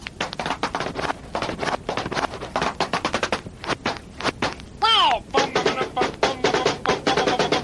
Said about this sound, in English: Gee, you know, that groovy sound sort of sounds like somebody knocking on the door.